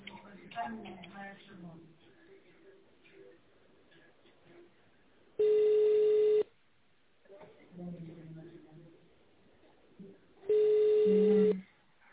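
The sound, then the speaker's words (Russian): Two loud, steady telephone keypad tones, each lasting about a second, dialing an employee's extension in tone mode on a call to the company Otterbock, sound between stretches of a recorded voice speaking over a phone line. “Пожалуйста, наберите добавочный номер сотрудника в тональном режиме или дождитесь ответа секретаря.”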